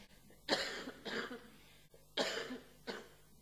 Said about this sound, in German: Ich muss gerade mal husten.